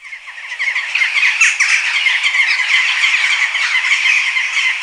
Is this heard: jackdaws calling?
yes